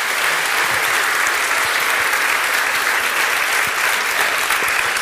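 Sustained audience applause, a dense wash of many hands clapping at steady, fairly loud level throughout, with no voices standing out.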